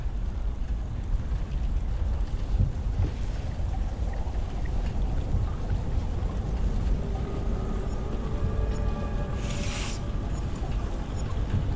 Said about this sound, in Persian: هی ببینم کی بارون گرفت.